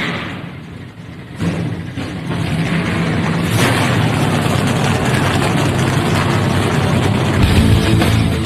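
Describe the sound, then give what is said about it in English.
Powerful race car engines fire up one after another after the Tennessee Lottery CEO gives the command 'Drivers, start your engines', building into a loud, sustained rumbling idle with a deep low growl and occasional revving surges. “Drivers, start your engines. The command has been given. Let's crank them up.”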